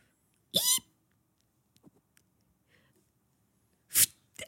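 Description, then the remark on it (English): A voice imitates a squeaky shoe with two short, loud, high-pitched squeals, one early and one near the end, separated by a quiet gap with faint clicks. “I'm trying to do like a squeaky shoe.”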